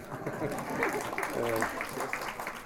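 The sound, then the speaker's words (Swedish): A few seconds of steady, dense clapping from a group, a fairly even patter of hands that holds at moderate loudness, with a brief trace of a voice mixed in midway. “Applådera gärna.”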